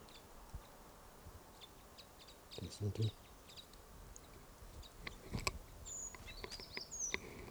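bird alarm call

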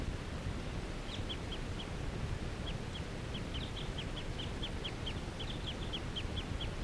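wild bird calling rapidly

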